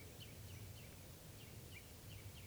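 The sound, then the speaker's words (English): Soft, rapid chitter notes from perched birds repeat about every third of a second, faint over a steady hiss of background noise, with no voices present. “Recording, the birds are just perched here for a long time giving alarm calls to each other and now to give you chitter notes.”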